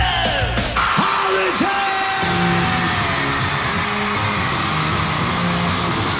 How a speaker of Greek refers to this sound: Για να φωνάζει το κοινό, μάλλον για μένα είναι αυτό, έτσι.